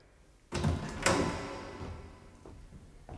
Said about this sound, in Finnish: Minä avaan nyt oven.